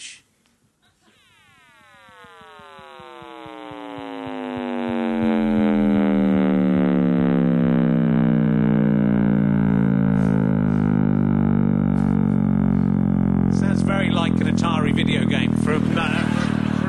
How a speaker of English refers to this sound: We have got this. We've got the sound of the Big Bang. Do you want to listen to it?